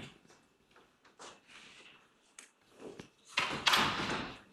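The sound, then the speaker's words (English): Doors being closed: a series of knocks and scraping clatters build toward a louder, fuller thud and rumble near the end, with a room murmur underneath. “Oh, if somebody could please close those doors.”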